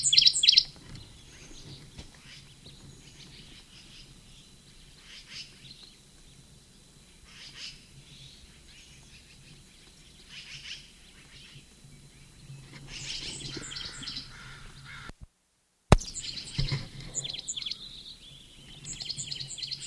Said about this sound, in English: Sycamore bird at the same nest cavity.